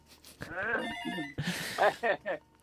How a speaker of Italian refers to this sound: allora, qui suona il telefono, di qualcosa, va, intanto che rispondo.